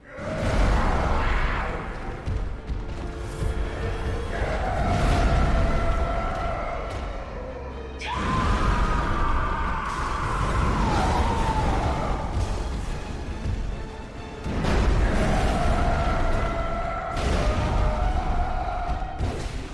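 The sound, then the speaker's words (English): Video game boss fight against Vicar Amelia: loud, piercing, studio-made screams wail and slide in pitch over a dense, roaring wall of music and noise, surging in several waves with no speech. “Somebody had a good time making some of those screams, right, in the studio.”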